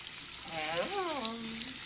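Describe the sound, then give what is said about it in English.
A steady hiss of water pouring into a glass of bourbon runs throughout, while a voice lets out a drawn-out, wavering moan over it. “I'll just put a little water in it.”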